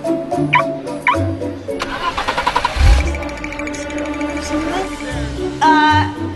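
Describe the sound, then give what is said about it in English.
A car engine, started with its remote activation feature, cranks with a quick run of rhythmic starter pulses, catches with a deep rumble, then settles into a steady idle hum. Brief electronic chirps come before and after. “Observe the remote activation feature.”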